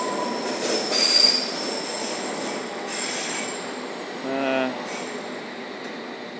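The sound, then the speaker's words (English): A Richmond train rolls past at Victoria with a steady rumble, its wheels giving off a sustained high-pitched metallic squeal that peaks early and lingers throughout. “Ah, yes, that would have been a Richmond.”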